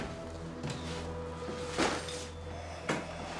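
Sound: door closing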